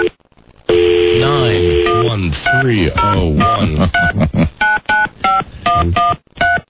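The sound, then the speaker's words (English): Telephone keypad tones beep out in a quick irregular series of short pairs after a steady tone as a phone number is dialed, fairly loud, with a person talking over and between the presses. “You know you're going to get through when you get that boop, boop, boop.”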